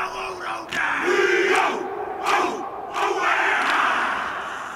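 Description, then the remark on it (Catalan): A Maori haka war cry performed by young men from the Pacific: many voices shouting together in a loud, sustained chant, punctuated by sharp accented bursts roughly every second, with no ordinary talk. “T'ha agradat el crit dels nois del Pacífic? Es diu Haka.”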